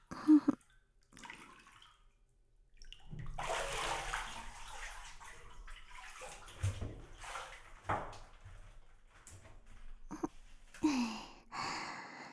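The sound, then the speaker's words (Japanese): Bathwater splashes and sloshes as someone climbs out of a tub, a few seconds of quiet giving way to steady, uneven water movement, with a couple of short breathy gasps. “ほら、お風呂から出て。”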